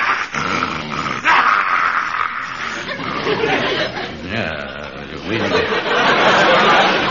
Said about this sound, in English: And besides, these German shepherds is used to handling sheep. Everybody knows they is gentle.